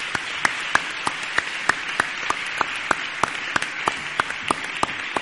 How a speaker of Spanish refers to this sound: Me parecen muy bien los aplausos, pero no podéis salir de aquí sin elegir 2 mediados.